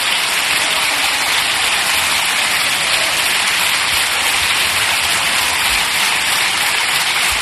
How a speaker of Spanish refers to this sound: Pedro Sánchez, que se pone en este momento de pie, aplaudiendo las palabras de Óscar Puente, también el resto de miembros de la bancada socialista, de pie, aplaudiendo a Óscar Puente